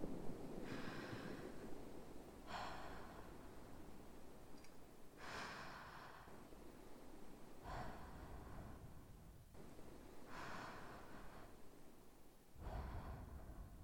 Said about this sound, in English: Just breathe deeply. That's right. In and out. Try to match my breathing. I'm very calm right now.